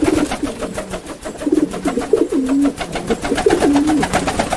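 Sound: carrier pigeon cooing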